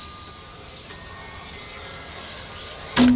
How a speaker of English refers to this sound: You see here, this is the machine that cuts the mirror. He buys these giant sheets of reflective glass, and he slices them into little pieces.